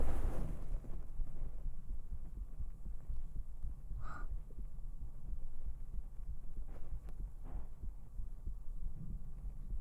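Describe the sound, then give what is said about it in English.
A fast human heartbeat picked up through a sweater: rapid, muffled low thumps repeating steadily, with a brief fabric rustle partway through and no talking. “How can I have relaxing heartbeat ASMR if my heartbeat is so fast?”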